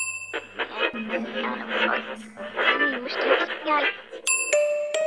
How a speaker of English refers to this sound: The silence was broken by the ding of an elevator bell.